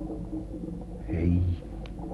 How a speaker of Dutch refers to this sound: Hé, wat is dat geklok vlakbij? Dat lijkt wel water. Kom mee, de tanks lopen leeg.